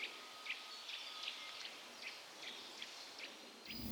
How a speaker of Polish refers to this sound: Sikory, kowaliki. O, właśnie, kowalik się przypomina.